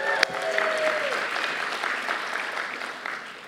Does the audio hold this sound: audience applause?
yes